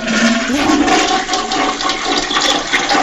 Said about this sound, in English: And the toilet is flushing.